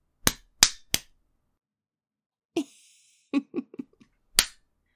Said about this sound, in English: Look at your pretty little face being slapped by a girl. Those pretty marks as my palm hits your cheeks.